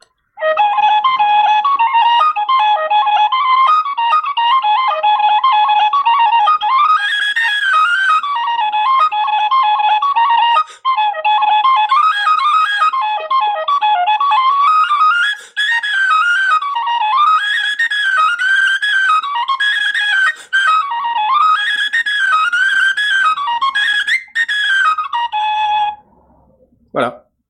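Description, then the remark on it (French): A small metal tin whistle (flageolet) plays a bright, high-pitched Celtic tune for about twenty-five seconds, the melody rising and falling in quick runs with a few brief breath pauses, loud and steady throughout. “Tout ce qu'il a ici, c'est des petits flageolets en métal. Là. Les petits flûtes.”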